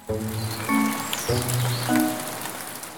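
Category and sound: nature, rain falling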